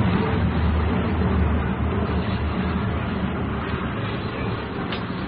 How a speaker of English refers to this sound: Four, eight, 12, 16. 16 military planes in a very tight formation buzzing up ahead here.